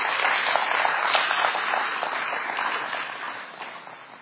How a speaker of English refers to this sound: Give the Lord a little hand clap of praise.